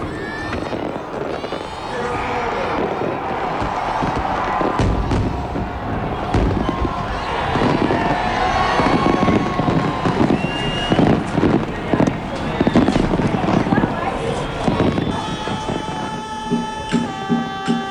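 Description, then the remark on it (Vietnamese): Fireworks crackle and pop in rapid, dense bursts at a festival celebration at Hoan Kiem Lake in Hanoi, Vietnam, with a voice talking over the noisy, continuous background of explosions. “Tại Hà Nội, Việt Nam, Hội Thăng Long tưng bừng biểu diễn đàn trống 285 chiếc và có đốt pháo bông ở Hồ Gươm.”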